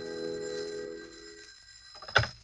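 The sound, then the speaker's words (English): A telephone bell rings in an office in a steady, sustained jangle that fades after about a second and a half, followed by a sharp clunk near the end. No voices. “I'd propped the latest edition just south of the bulge that marked the last resting place of a brace of breaded pork chops when the phone rang.”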